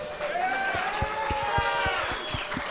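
An audience applauds a contestant joining Team Tangerine in a dense, steady wash of clapping and crowd noise, with a regular series of low thumps underneath and faint tonal, whooping sounds rising above it.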